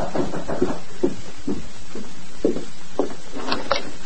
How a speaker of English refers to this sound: Meantime, at the Miller Ranch House, Jim Miller was in the living room when a knock sounded at the door.